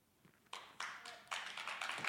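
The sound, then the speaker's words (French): Scattered applause from a small group in a hall, a handful of people clapping in broken, uneven bursts that swell slightly toward the end, with no speech over it. “Il y a eu des applaudissements dans la salle, Judith. Quelques applaudissements.”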